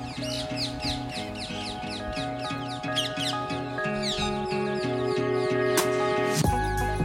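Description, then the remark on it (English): A dense flock of green parakeets calls continuously, with shrill overlapping chirps and squawks, over a steady low, pulsing mechanical drone; no one speaks. “Okay, so we're taking a stroll back to the main exit, and we've just passed the same cormorant that we saw at the beginning, accompanied by a load of parakeets, which just shows how they're a part of our ecosystem.”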